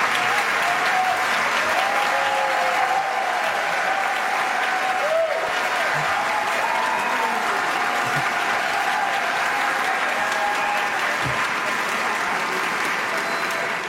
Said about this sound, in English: Could we give another round of applause to Paul Fanlon and to the whole team here at Idea Fest at the Capital Times here in Shannon Hall?